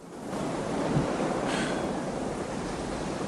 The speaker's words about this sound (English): Nady and Gibson stand on a sandy beach, staring out at the sea.